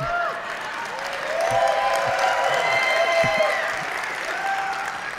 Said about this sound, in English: Now, if you're a regular attender, oh, go on. You can clap for me.